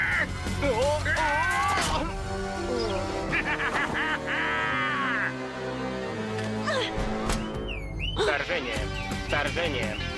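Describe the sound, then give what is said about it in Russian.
Loud, harsh bird squawks and caws burst out again and again in a frantic, chaotic scuffle between a bird and a cat, nearly continuous, with shrill cries piling on top of each other. “Кот против птицы!”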